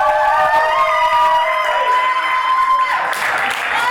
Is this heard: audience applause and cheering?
yes